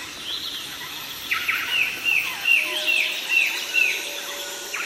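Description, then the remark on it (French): A small black-headed insectivorous bird, the lapie, gives a series of about six clear, ringing trumpeting notes at a steady pace, over a constant hum of insects in the Amazon rainforest. “Les 5 ou 6 notes claironnantes sont celles de la petite oiseau à tête noire, la lapie.”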